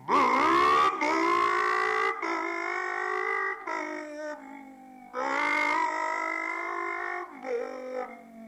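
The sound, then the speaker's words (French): A voice imitates the engines of Monte-Carlo Rally cars, from the start at Montauban into the Col de Perti, with sustained, buzzing revving tones that rise and hold, broken into several loud bursts with brief pauses, each pitch climbing as if accelerating through gears. “Et puis, bon, mais je vais essayer de faire le bruit des voitures du rallye de Monte-Carlo.”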